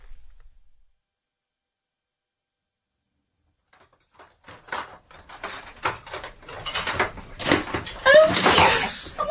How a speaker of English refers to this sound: It was a rather surprise for me too, someone going through my kitchen drawer.